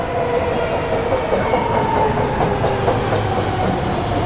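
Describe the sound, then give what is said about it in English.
A packed Millbrae commuter train rolls steadily along the rails, a loud, continuous rumble with faint rhythmic clatter and a sustained mid-range hum, with no voices. “Millbrae train now departing. Doors are closing.”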